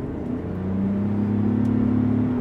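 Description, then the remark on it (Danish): A car engine pulls under full throttle, accelerator floored while driving uphill on a Tuscan country road, a low, steady droning hum that holds for a couple of seconds before easing off slightly as the speed limit is reached. It sounds fairly subdued, with no one talking. “Fordi når jeg træder speederen i bund om et øjeblik, så vil I kunne høre, hvor lidt motoren den støjer.”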